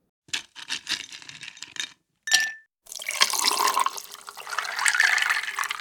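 A few quick clinks and a short crack, then a steady stream of liquid pouring into a glass for several seconds, with no one talking.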